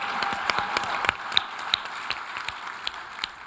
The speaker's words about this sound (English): Please come to our booth and help me and give a round of applause for our panelists.